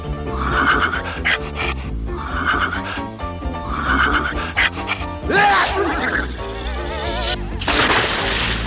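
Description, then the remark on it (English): A horse whinnies loudly, its shrill, quavering neigh rising over a steady musical backing, with another snorting whinny near the end. “Just my luck to have the only horse in the West that's allergic to cats.”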